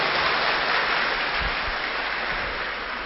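A crowd claps steadily for about three seconds, a dense, even patter of many hands that stays loud throughout and eases off slightly at the end, with no voices; a teacher's applause of praise for his students after a three-hour session.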